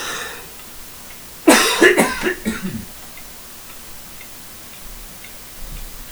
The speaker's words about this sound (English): Professional podcasting, always cough into the microphone. That's how the pros do it.